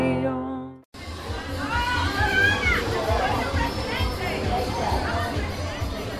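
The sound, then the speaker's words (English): A brief harmonic musical note gives way to a dense outdoor crowd at the annual San Gennaro street festival in New York's Little Italy, with music, overlapping voices, children's shouts as kids play carnival games, and a steady low rumble, busy throughout. “New York's Little Italy bustles with music and kids playing carnival games at the annual San Gennaro Festival.”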